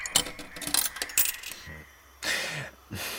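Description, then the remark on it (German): A coin rattles and clinks down through a coin-operated machine and comes back out at the bottom, a quick series of bright metallic ticks over about a second and a half, followed by two short bursts of mechanical whirring. “Die Münze kommt unten wieder raus.”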